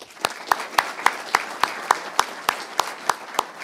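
An audience applauds after someone takes the oath at a swearing-in, in a steady, rhythmic beat, with evenly spaced sharp claps standing out over a continuous wash of scattered clapping. Moderately loud throughout, with no voices.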